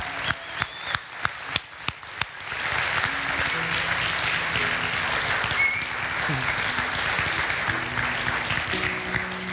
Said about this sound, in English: Well, thank you guys for being a part of this. Can we get one more round of applause for our baptism here? That's awesome.